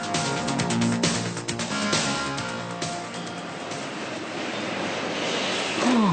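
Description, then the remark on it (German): Busy car factory assembly line machinery, where engine and chassis are fitted into the car body, a steady, loud mechanical din packed with metallic clanks and rattles, with a brief whining tone near the start and a descending whine at the end. “So nennen Autobauer den Augenblick, in dem Motor und Fahrwerk in die Karosserie eingebaut werden.”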